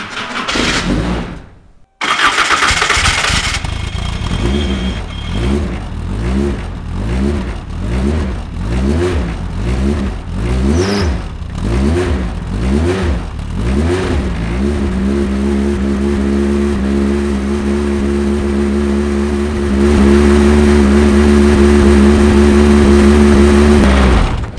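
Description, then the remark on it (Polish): A race car engine, fitted with a pneumatic gear-change system, cranks after its gear-change compressor pumps up, then catches and fires up. It revs in a series of sharp, rising blips before settling into a loud, steady roar. No one speaks. “Znaczy teraz pompuje się kompresor od zmiany biegów i odpalamy.”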